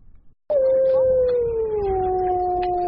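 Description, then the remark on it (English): A single wolf howl, one long, steady, mournful note that slowly sinks in pitch and holds for a couple of seconds. It is loud and clear, with faint low rumbling underneath. “The recovery of wolves in America's Yellowstone National Park is often noted as an example of successful rewilding.”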